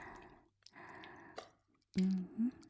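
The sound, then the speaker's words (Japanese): Slimy lotion, diluted with hot water, squishes and squelches on a body in three wet, slippery bursts separated by short pauses. The final burst is the loudest and thickest. “エッチするとき、気持ちよくなるように、ローションってあるんだから。ぬるぬるのぬめぬめ。”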